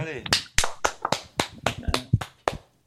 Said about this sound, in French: Eh, ça mérite des applaudissements.